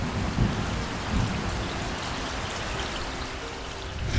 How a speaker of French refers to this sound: Mon tapis, au-dessus de ma tête, me protège de la pluie automnale.